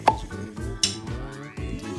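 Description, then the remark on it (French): On CFM Radio in Tarn-et-Garonne, a voice imitates the pop of a bottle cork with a quick mouth pop, followed by a second brighter click, over a steady tonal music bed. “d'imiter le bruit du bouchon”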